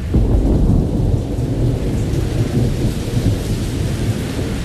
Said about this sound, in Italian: Sui campi della pianura di Comalà sta cadendo la pioggia. Una pioggia fine, strana per queste terre che conoscono solo acquazzoni.